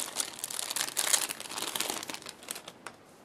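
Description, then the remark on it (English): Continuous crinkling of the thin protective plastic wrapping on a new phone being unboxed, with bursts of sharp crackles over about three seconds and no voices. “It's covered in protective wrappings here.”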